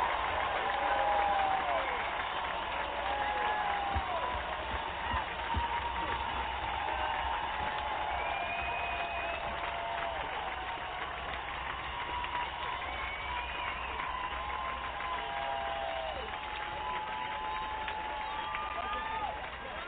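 A large crowd applauds and cheers steadily for about twenty seconds, dense clapping blended with shouts and rising whistles, holding an even, fairly loud level throughout with no single voice standing out.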